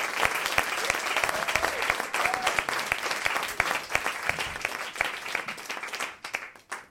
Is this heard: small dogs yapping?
no